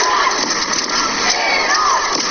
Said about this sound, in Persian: اما در این استادیوم کوچک تعداد زیادی زنان ایرانی هم حضور پیدا کردن و در حال فریاد زدن و تشویق تیم ملی ایران هستن. صدای اونها رو با هم بشنویم.